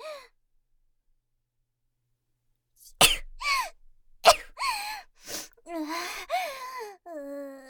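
After a few seconds of silence, a person sneezes sharply at another person, twice in quick succession, then gives breathy, whiny vocal sounds and sniffles.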